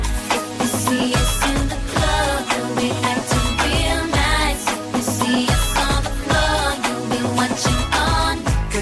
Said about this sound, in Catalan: Avui anem fins al 2007, una època en què la cançó número 1 que sonava a les ràdios era aquesta.